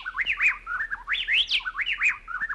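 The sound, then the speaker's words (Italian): Two birds, a male and a female, sing a duet in close alternation. They swap rapid whistled phrases that swoop up and down in a repeating pattern, with the male singing the first phrase and the female the second. The song is clear, with no voices present. “Ci sono degli uccelli duettanti. Si riconoscono i due canti.”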